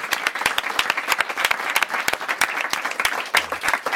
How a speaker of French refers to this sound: À vous les artistes, merci. Public, pour les applaudir tous.